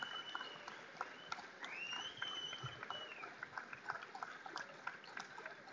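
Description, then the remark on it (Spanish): An audience claps steadily for several seconds for the waiters, a dense patter of many hands, with a brief whistle rising above the clapping midway through. “La verdad que quiero pedir un fuerte aplauso para todos ellos por la atención que siempre que tienen con nosotros.”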